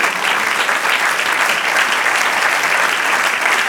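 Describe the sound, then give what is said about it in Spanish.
An audience applauds together in a steady, dense wash of clapping that stays loud and even throughout, with no voices rising above it, during the church program Voz de Restauración. “Si quieren aplaudir con toda libertad.”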